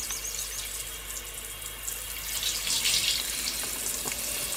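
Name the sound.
shower water running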